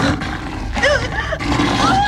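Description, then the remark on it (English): A lion in a bedroom roars loudly for about two seconds, a rough, sustained growling blast with higher wavering, cry-like tones sliding over it, briefly dipping before surging again. “She opens her bedroom door and sees the lion.”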